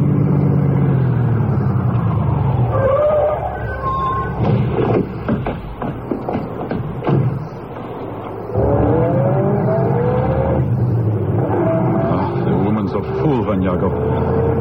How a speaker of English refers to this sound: I shall stop the car now and let you off.